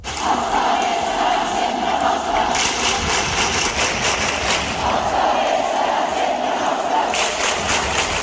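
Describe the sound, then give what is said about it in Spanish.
A large protest crowd on a strike day in Barcelona and the rest of Catalonia shouts slogans in unison, voices rising and falling in rhythmic chanting bursts over a constant roar of many people, loud and sustained throughout. “En Barcelona y el resto de Cataluña, ayer, día de huelga, se repetían gritos y consignas como estas.”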